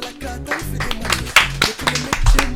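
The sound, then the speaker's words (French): A person applauds themselves, clapping in a steady rhythm, about six sharp handclaps spread over a couple of seconds, with a low, tonal musical hum running underneath. “Mais qui t'auto applaudit.”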